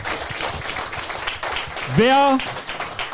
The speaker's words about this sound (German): Kleiner Applaus